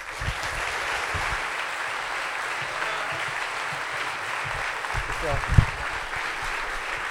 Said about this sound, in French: Merci d'applaudir Thomas VDB.